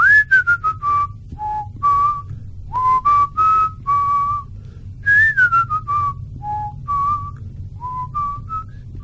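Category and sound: human body sound, whistling a song melody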